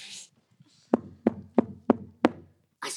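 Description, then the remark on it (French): Five evenly spaced, sharp knocks on a door, each with a short resonant thud, followed by a brief burst of noise at the end. “Quelqu'un qui toque à la porte ? Oui, c'est ça.”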